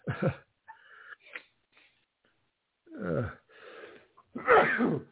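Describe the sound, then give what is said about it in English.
A few sharp, wheezy breaths and sniffs build up before one loud sneeze bursts out near the end, brought on by trying to breathe through the nose. No talking. “So now I'm going to sneeze because I was trying to breathe through my nose.”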